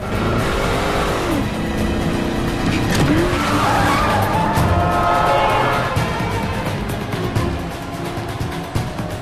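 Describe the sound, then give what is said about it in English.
In a Bourne film scene, a police car's tires squeal as Bourne spins it around, then the engine roars and revs hard as he speeds off down an exit ramp, chased by CIA vehicles. The sound is loud and continuous with no talking. “Spins the car around and hurtles down the exit ramp with more CIA vehicles joining the chase.”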